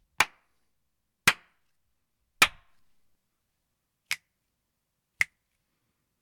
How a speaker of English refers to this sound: First up, some claps and snaps.